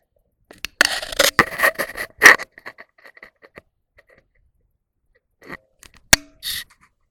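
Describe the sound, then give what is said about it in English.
Footsteps on stairs: an irregular run of scuffing, scraping steps and soft knocks, then a quiet gap before a few more sharp steps and a scrape. No one speaks. “We heard you playing with a device and I hear your footsteps.”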